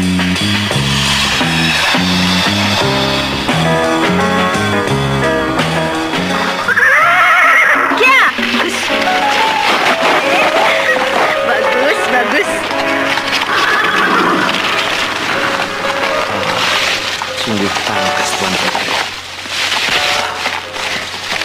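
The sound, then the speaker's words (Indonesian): A horse whinnies loudly while hooves clatter along in a steady gallop as it is ridden, the sounds continuing throughout over a busy, dense background. “Pandai sekali Tuan Putri menunggang kuda.”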